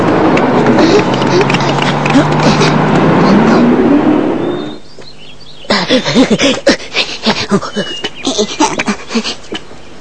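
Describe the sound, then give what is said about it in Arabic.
A car engine rumbles loudly for several seconds, then goes quiet as the car arrives and stops, and a few voices start chattering. “ها هي السيارة قد جاءت.”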